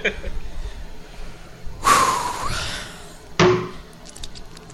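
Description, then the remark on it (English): Someone gulps down the last 24 ounces of their water: a long, loud, wet rush of swallowing followed by a short, sharp second gulp, with softer breathing sounds around them. “All right, I've got 24 ounces of water left, and it says here on the program we have to finish what we're drinking, so I'm about to slam this.”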